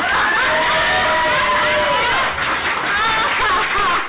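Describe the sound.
An audience cheers and claps continuously for about four seconds, a loud, dense wash of applause with shouting and whooping voices rising above it.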